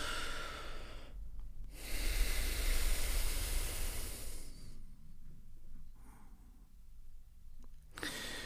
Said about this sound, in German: Jetzt kannst du durch beide Nasenlöcher ein- und ausatmen. Wir nehmen nochmal tief Luft und atmen dann aus beiden Nasenlöchern gleichzeitig aus.